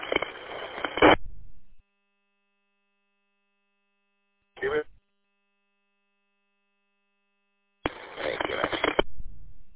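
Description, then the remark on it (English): Three separate bursts of buzzy, beep-like signal come over a radio, about a second each at the start and end with a brief chirp in between, and silence between them. “All I get is a whole bunch of beeps.”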